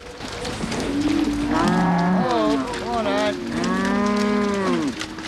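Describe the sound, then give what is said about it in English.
Several cows in a herd, driven by a farmhand along a rain-wet lane into a farmyard, moo loudly in long, overlapping calls with rising and falling pitch, over a steady background rumble of movement, with no one talking. “Their bulk fills the lane. The three girls lean against a wall”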